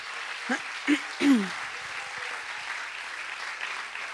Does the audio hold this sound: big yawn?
no